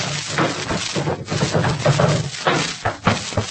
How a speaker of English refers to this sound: In the modest home of the Great Gildersleeve, there occurs a phenomenon peculiar to male youth. It is marked by the gentle pattering of feet.